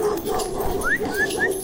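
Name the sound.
dog barking and whimpering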